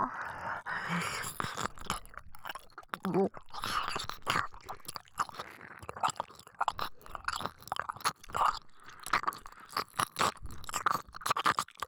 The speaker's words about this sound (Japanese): どっちが感じやすいとかあるんですよ。耳の奥もしっかり舐めますからね。